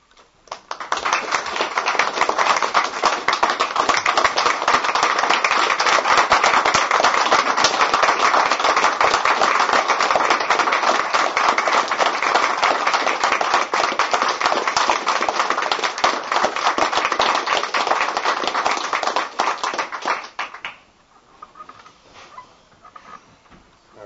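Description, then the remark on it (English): Sustained audience applause at the end of a speech about State College of Florida, loud and dense with many hands clapping steadily for about twenty seconds, then dropping off abruptly to a few scattered claps and quiet murmur. “applause could not have gone on long enough, probably, for all of us.”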